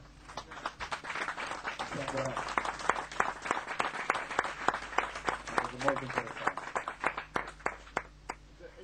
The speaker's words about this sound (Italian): Se lo merita un applauso?